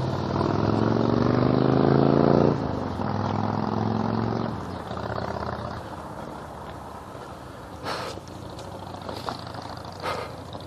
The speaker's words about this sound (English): Oh, and of course there's a car. Hello, car. Because this is the intersection where there are always cars.